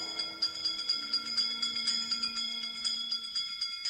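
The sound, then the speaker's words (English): A bell rings rapidly and continuously, its bright metallic tones shimmering in quick repeated strikes at a steady moderate level for the whole stretch, with no voices. “Wizards and witches, wherever you dwell, give us a hint by ringing a bell.”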